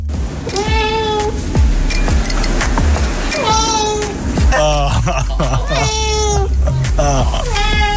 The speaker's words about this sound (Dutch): De hele godganse dag is het alleen maar gemauw en gemekker om helemaal niks. De hele dag door.